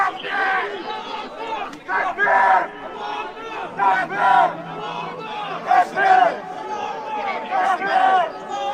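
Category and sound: crowd, crowd shouting chants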